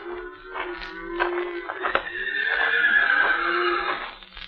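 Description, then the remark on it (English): A white horse that has wandered down a trail on a mesa at night whinnies at length, a shrill, wavering neigh that rises and trails off over several seconds, clear with no one talking. “One of the horses must have walked down the trail a piece.”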